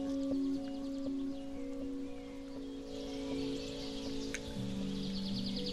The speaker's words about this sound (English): Sort of a spring thing with birds. And then this gamelan sort of instrument.